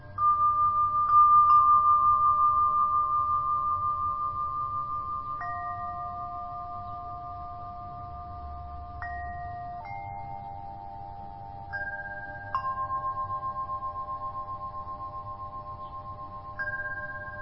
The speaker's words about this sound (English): Now let's tune in to the Tibetan bells again. Let your awareness focus there with the sounds that you hear.